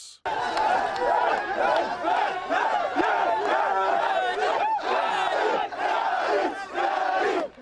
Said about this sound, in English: It's about 9:30 on a warm Sunday night, and a crowd has gathered around the winning team from California, who just barely took first place in the annual soccer tournament organized by the Sudanese American Soccer Federation